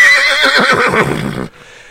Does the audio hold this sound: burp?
no